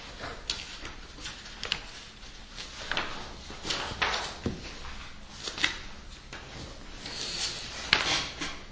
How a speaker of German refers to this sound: Der ist so lang. Noch viel Blättern.